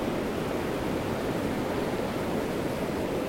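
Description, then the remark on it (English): A steady, continuous roar of North Sea surf along the seashore at Saltburn by the Sea on a foggy, cold day with heavy sea mist, a dense wash of breaking waves blended into one even rushing sound with no distinct swells, moderately loud and with no voices. “I'm back by the seaside. A place called Saltburn by the Sea.”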